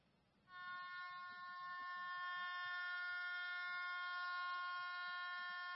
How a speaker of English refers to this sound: I don't know if you can hear that. The heading says it's the end of the quarter buzzer. My wife said it sounds like a shofar. I think that means it's the end of the game.